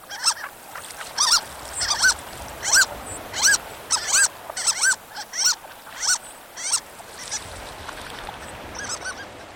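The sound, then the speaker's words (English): Harlequin ducks calling in a steady series of high, squeaky, mouse-like notes, many short whistled calls repeating over a soft hiss with no voices. “The rigorous lives of harlequins require great adaptability, from fresh water to salt”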